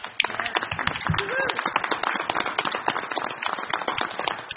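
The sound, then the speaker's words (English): People applauding, dense overlapping claps forming a steady, sustained wash of sound at moderate volume throughout, with faint voices mixed in, at a school board meeting, applauding teachers and administrators for the district's graduation rates. “And so we want to give our teachers, our administrators, and our administration a hand of applause.”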